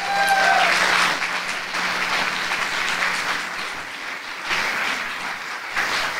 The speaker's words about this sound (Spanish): Denle un aplauso al Rey de Gloria.